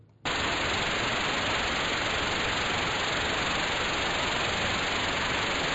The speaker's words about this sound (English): Now you're going to hear white noise, which its official definition is a flat spectral power density.